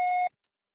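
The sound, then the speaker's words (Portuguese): A single electronic beep, steady and moderately high-pitched with a bright harmonic, lasting about a quarter second before cutting off abruptly into silence, like a voicemail prompt signaling recording has begun. “O suporte será tarifado após o sinal.”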